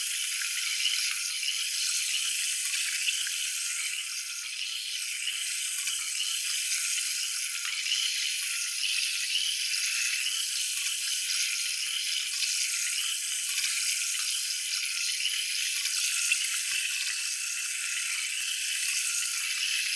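Carbonated spring water runs steadily over hair, a continuous bright hissing, fizzing rush with faint crackles throughout, no voices and no pauses.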